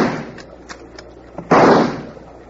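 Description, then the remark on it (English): Rifle shots fired by Hickok from a pitching boat at attackers: a few faint, sharp cracks in quick succession, followed by one loud, booming report that rings out and fades over the next second. No voices are heard. “hand me that rifle”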